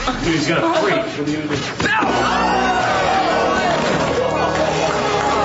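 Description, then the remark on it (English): A crowd cheers and claps loudly and steadily, voices yelling and whooping over a dense wash of applause that carries on without a break. “I will accept that applause”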